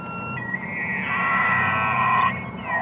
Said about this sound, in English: That elk bugle is something some here have never before heard.